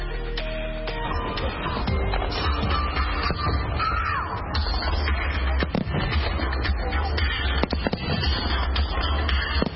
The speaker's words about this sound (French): Toujours à Washington DC, à partir de 21h et pendant environ 17 minutes, depuis le National Mall, les Américains ont eu droit à des grands feux d'artifice.